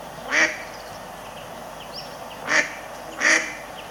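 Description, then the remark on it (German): A mallard duck quacks three times, one short quack, a pause, then two more close together, clear against a faint background hiss. “Aber die quaken genau wie die Stockenten.”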